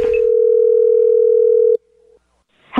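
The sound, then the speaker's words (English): A single steady ringback tone from an outgoing phone call hums loudly for nearly two seconds, then cuts off abruptly; after a brief quiet gap, someone starts speaking at the very end. “So I am calling her to say I need a caricature drawn of myself, but I need it now.”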